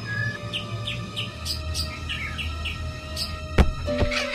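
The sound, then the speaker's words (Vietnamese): A bird sings a sweet, melodious song of repeated chirping phrases, clear, over a low steady background hum with a brief knock near the end. “Ôi, con chim đẹp quá, lại còn hót hay nữa chứ.”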